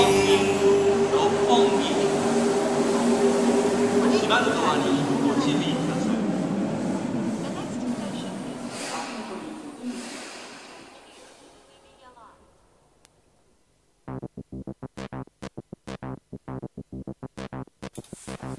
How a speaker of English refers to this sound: God, I love the bit of ambient noise and the bit of the train at the end. That was awesome.